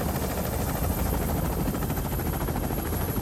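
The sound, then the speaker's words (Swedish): A helicopter carrying a mountain rescue team flies around a mountain range in the Provence Alps northwest of Nice, searching for the missing Flight 9525, its rotor producing a continuous, dense thudding roar with a rapid pulsing rhythm, with no voices heard. “Helikoptern flyger kring en bergskedja i Provence-alperna, nordväst om Nice.”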